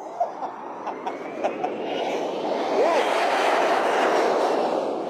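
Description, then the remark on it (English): A jet taking off: a broad rushing roar that swells steadily over several seconds and then holds loud, with a few sharp clicks at the start and a brief whine partway through. “All you got to be is the ninth caller when you hear that jet taking off.”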